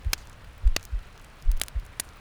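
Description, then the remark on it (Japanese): A muffled heartbeat: soft low thumps arriving in paired beats at a slow, steady rhythm, with faint crackly clicks scattered over a quiet background hum. “鼓動って落ち着くんだって。”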